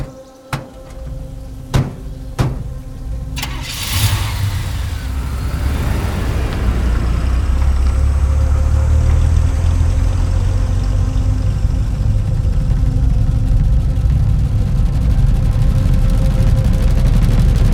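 A few sharp car-door thuds, then an engine cranks and catches with a rough burst, settling into a steady, loud rumble that builds as the car pulls away. No voices.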